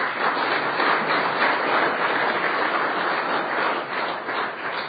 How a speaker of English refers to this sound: Thank you, Senator Johnson, and lady and gentlemen in the balcony. It seems that applause is never enough for what you do, but that's all we have to offer today, so thank you so very much.